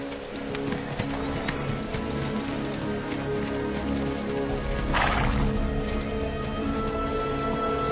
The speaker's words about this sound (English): The horses are approaching the starting gate.